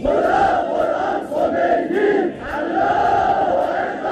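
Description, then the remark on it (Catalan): A massive crowd of millions in Iran roars and chants in unison, acclaiming Khomeini on his return from exile, a dense, sustained wall of voices with rising and falling rhythmic swells, loud throughout with no clear individual speech. “Des de l'exili, Khomeini lidera la revolució i 15 dies després de la marxa del Shah torna a l'Iran aclamat per milions de persones.”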